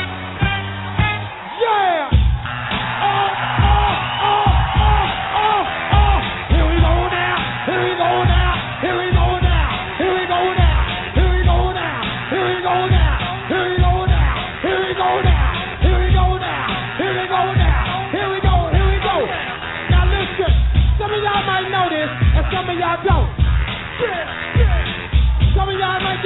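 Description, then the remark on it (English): A crowd at Bahama Bay in Philadelphia cheers and yells steadily for about 26 seconds, loud and constant, answering a call to make some noise, mixed with punchy rhythmic music hits that recur throughout. “At the count of three, I want everybody in the place to be to make some noise if you're down with me.”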